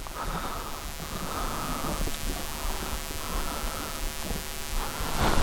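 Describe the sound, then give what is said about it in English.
Steady, dense rain from a thunderstorm hisses and patters continuously with a low rumbling undertone, fairly loud, swelling slightly toward the end, with no voices. “The rain is falling down.”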